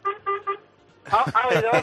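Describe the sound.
Three quick, evenly spaced honks from the horn of a waste collection truck sound in a short rhythmic burst, followed immediately by a person talking loudly.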